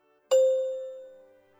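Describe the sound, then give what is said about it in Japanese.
A single bright chime strikes once, signaling the learner's turn to ask a question in a language practice drill, ringing with a clear sustained tone that slowly fades over about a second, alone with no voices around it. “のチャイムの後に続けてうくむにで質問しましょう。”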